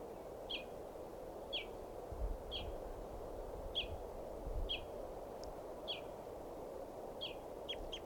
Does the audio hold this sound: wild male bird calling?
yes